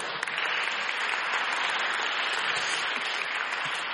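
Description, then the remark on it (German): Sustained audience applause, a dense, steady wash of many hands clapping at an even loudness for the whole stretch, with no voices standing out. “Gib den Jörg gerne nochmal einen Applaus.”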